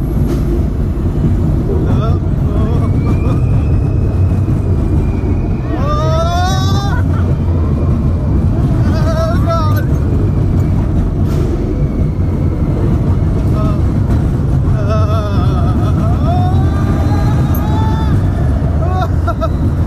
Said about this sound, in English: What you can now hear is the sounds of the wind leaving our body on the thrill ride Space Mountain.